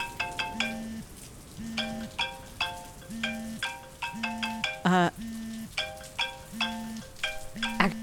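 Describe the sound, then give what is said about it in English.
A mobile phone ringtone plays a bright, repeating electronic melody over and over with a steady pulsing beat, over a constant sizzling hiss in the background. “Let me just throw my phone out the window. You're not even going to see who's calling?”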